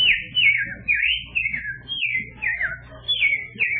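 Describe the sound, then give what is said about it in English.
A person whistles a rapid series of bird-call imitations, short falling and warbling notes repeated about eight times, fairly loud over a low background rumble. “Then what are some other bird calls?”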